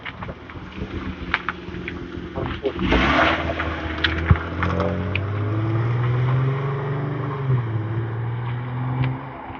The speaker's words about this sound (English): Truck.